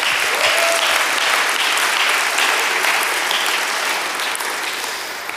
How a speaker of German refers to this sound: Wir haben ja heute die Taufe gehabt. Das war kraftvoll. Ihr lieben Täuflinge, danke für euren Mut. Danke, dass ihr das gemacht habt, diesen Schritt gegangen seid. Ja, klatscht gerne nochmal.